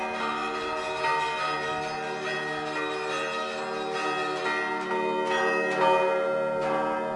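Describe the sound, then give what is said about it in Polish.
Several Orthodox church bells, rung by bell ringers in an even (duple) rhythm, ring together in a steady pattern, their rich overlapping tones sustaining and sounding moderately loud, with no voices. “Wszyscy wykonawcy, wszyscy dzwonnicy zaprezentowali rytmy parzyste.”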